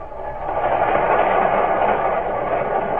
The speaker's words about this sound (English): Through New Jersey, boasting Forge and Trenton, rumbles the Freedom Train, until at last it comes into sight of skyscrapers that would have astonished the most visionful pilgrim, and roars into the nation's most teeming city.